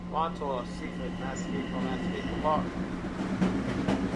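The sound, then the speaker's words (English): Steady rumble and low hum inside a moving Long Island Railroad commuter train, the cars rocking and clattering softly over the rails, with muffled voices talking through the first few seconds. “The cars still rock like a cradle. The sound between cars is thrilling.”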